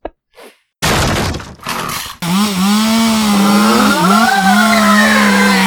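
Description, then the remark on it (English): After a couple of quick faint knocks and a loud, harsh grinding burst, a chainsaw engine roars, its pitch wavering and surging as it revs continuously. No one speaks. “Now you're going to get died by my chainsaw.”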